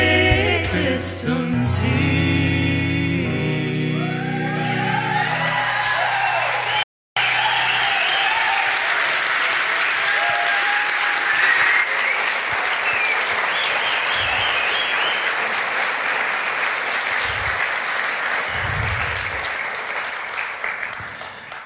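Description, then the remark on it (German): A song by musicians ends with sustained harmonic singing, then after a brief break an audience bursts into loud, steady applause for the musicians that carries on for about fifteen seconds before slowly tapering off. “Ihr kriegt immer den ganzen Applaus.”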